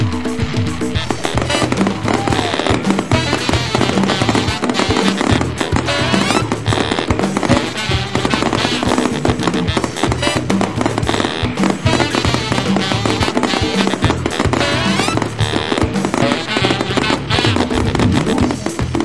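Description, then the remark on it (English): Dense, continuous barrage of fireworks exploding for an anniversary celebration, loud, with rapid overlapping bangs and crackles filling the whole stretch without pause. “And all these fireworks and celebrations can only mean one thing.”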